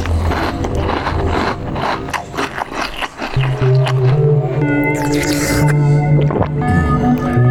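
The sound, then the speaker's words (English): Scrubbing and scraping inside a bowl being cleaned with water, with wet swishes giving way to drawn-out squeaky, ringing tones as the surface is rubbed clean. No one speaks. “With the bowl clean, I can pour the water in and scry what the future will bring.”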